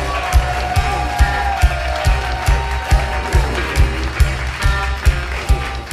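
crowd cheering and applause

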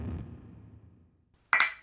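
glasses clinking

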